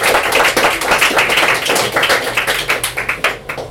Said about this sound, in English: It's kind of you to clap, but I've got a lot of really short poems. So if you would like to hold your any applause to the end too, that's perfectly fine too, whatever you like.